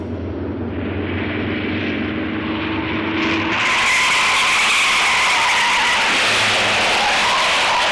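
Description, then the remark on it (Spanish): A black car roars at full speed with engine drone, then tires screech and skid loudly as the noise surges into a broad, sustained rush. No one speaks. “En el coche, Marcel conduce a toda velocidad.”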